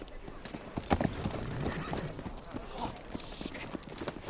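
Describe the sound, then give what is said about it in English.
Horse hooves clip-clop steadily as a man rides the horse, a brisk repeating rhythm of hard knocks over a busy background with faint voices mixed in. “You know, you look pretty handsome up there on that horse.”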